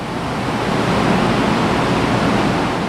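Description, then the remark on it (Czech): A steady, dense roar of rushing water on the first underground floor of the machine hall of the Štěchovice pumped-storage hydroelectric power station, loud and unbroken for the whole moment, with a broad hissing texture and no voices. “Sílu vody si uvědomím okamžitě.”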